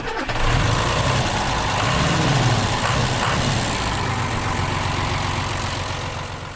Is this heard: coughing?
no